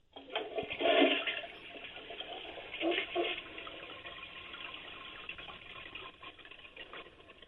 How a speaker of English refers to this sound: And the toilet is full, right? Yeah. All right. Now flush it.